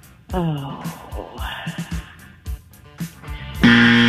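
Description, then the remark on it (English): A quiz show's 7-second time-up buzzer blares at the very end, a loud, harsh, steady low-pitched electronic tone thick with raspy overtones, cutting in abruptly after a stretch of indistinct vocal murmuring and shifting tones. “There's the 7 second buzzer.”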